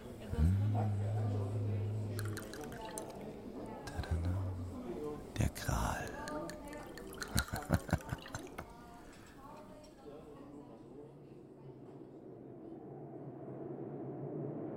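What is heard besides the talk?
pouring drinks into glasses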